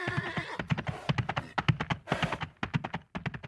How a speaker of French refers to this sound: Il marche en boitant jusqu'à son cheval et disparaît, avec Gladys, dans un nuage de poussière.